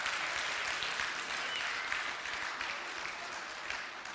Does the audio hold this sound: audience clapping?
yes